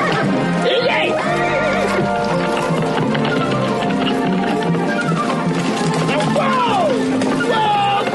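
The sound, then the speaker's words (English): A horse being handled by a man goes wild, neighing and whinnying over and over, loud, shrill, wavering cries that rise and fall, with busy clattering and a murmur of background noise throughout. “So he's just going and doing this like ridiculous thing, and the horse is going nuts.”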